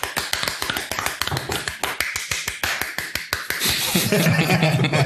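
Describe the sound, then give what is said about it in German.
Brief applause from a couple of people clapping for themselves: a quick, uneven run of sharp, crisp hand claps for about three and a half seconds, then fading as voices and laughter take over. “Oh, dafür einen Applaus für uns selbst.”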